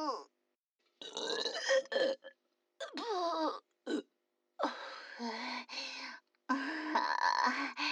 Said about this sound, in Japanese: またゲップ登ってきたよ。ラーメンゲップ出る。